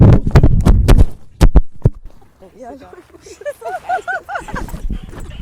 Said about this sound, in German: Ja, es ist gerade Maler mit einem Wahnsinnssatz zwischen uns durchgerannt und hat Aufnahmegerät und Mikros mit sich mitgerissen. Das war das große Geräusch gerade